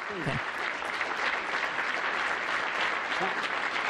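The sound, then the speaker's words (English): Sustained applause from a crowd for Joe Biden in a room at the White House, a dense, steady wash of clapping that fills the whole four seconds without letting up, with a couple of brief voice-like blips mixed in. “I don't know what room in the White House they're at, but there's a big, long, extended applause for Joe Biden.”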